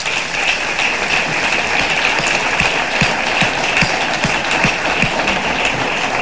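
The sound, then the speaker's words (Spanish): A crowd breaks into sustained applause for a man the speaker has just thanked, a dense wash of clapping that fills the space at a steady, fairly loud level, with a few sharper claps standing out and no one speaking. “Y yo hoy quiero darle las gracias y quiero un aplauso para él.”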